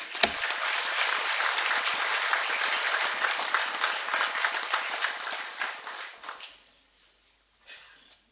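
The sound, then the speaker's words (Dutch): A room full of people applauds steadily for several seconds to thank a person called forward by the mayor, dense clapping that stays loud and even before quickly tapering off into near silence, with a brief faint stir at the end. “Maar ik wil heel graag dat je naar voren komt, zodat ik je onder een applaus ruim kan bedanken.”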